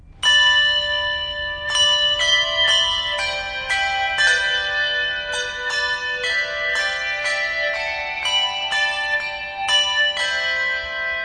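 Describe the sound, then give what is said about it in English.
A handbell choir at St. Michael's church rings a bright, layered melody, clear tones striking in steady succession and overlapping as they sustain, fairly loud, with no voices. “He's since been promoted to head custodian, and on special occasions, like Easter Mass, he plays in the bell choir.”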